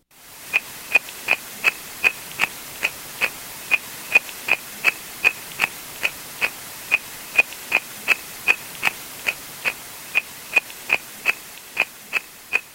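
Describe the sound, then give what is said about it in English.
Tadpoles munching, captured underwater by hydrophone at a lake and highly amplified: a steady train of sharp, crisp clicks, roughly three per second, each with a bright ringing edge, over a faint hiss and no voices. “So this is tadpoles munching on a hydrophone.”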